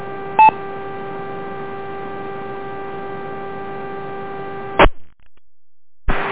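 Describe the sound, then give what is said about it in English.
The Rochester radio repeater is keyed up with a steady buzzing hum and a brief touch-tone beep near the start. It cuts off with a squelch burst, falls silent, then keys up again at the end. “Okay, somebody keeps keying up the Rochester repeater.”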